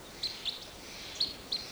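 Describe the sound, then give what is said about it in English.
Four short, high-pitched chirps from wild birds ring out in an uneven rhythm, two close together then a pause before two more, over a steady low hiss with no voices. “Pointed at the wild birds.”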